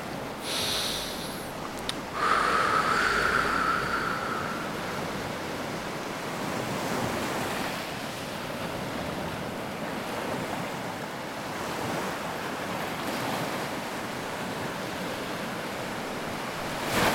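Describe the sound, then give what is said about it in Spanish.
Ocean waves wash steadily onto a beach, a continuous hissing roar of surf that swells early on and then rolls on evenly, moderately loud, with no voices. “Cada vez que respires, piensa que las olas vienen hacia la playa.”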